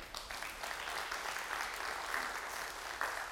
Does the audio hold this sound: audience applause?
yes